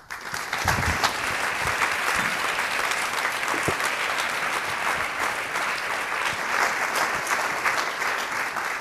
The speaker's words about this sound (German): Bitte noch einmal einen herzlichen Applaus für Aurelia und das gesamte Team des FAQ.